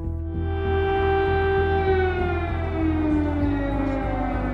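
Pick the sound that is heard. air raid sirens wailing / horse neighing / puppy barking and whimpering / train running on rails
air raid sirens wailing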